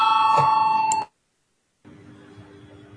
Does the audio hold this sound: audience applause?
no